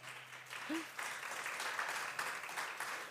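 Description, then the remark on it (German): A small group claps steadily for a few seconds to welcome two guests, a dense patter of hands at moderate loudness, with faint murmuring from the crowd mixed in. “Ganz einen kleinen Applaus aus eurer Runde her.”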